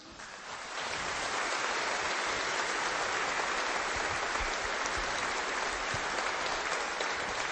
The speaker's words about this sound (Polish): Wielkie brawa, że jest. Za to, co robi, myślę, że czujemy wszyscy, że trzeba dzisiaj jej podziękować.